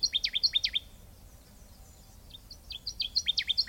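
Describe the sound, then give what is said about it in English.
A songbird perched high in the crown of a tree gives quick bursts of high, down-slurred whistled notes, one rapid series, a short pause, then another, over a faint low background rumble. “It often sounds like the bird is calling from low in a tree, when it's actually perched high in the crown.”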